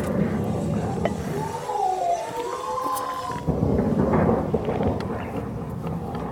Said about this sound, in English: Yes, those are waves hitting houses.